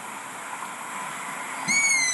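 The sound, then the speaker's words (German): A long-eared owl chick gives a single high, thin, drawn-out squeaking call near the end, somewhat like a kitten's mew, after a stretch of steady hissing background. “Ich habe dann auch den Ruf des Waldohreulenbabys auf YouTube eingegeben und habe das dann gefunden.”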